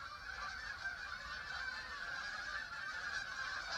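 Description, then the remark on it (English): A dense chorus of geese honking continuously in flight, many overlapping calls blending into a steady, busy clamor with no pauses, even in loudness, as a flock passes overhead. “Even the honking is purposeful with geese.”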